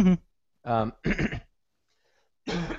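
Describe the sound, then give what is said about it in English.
A few short, rough coughs come in separate bursts with brief silent gaps between them, throaty and moderately loud, with no one talking over them. “Okay, can I cough too?”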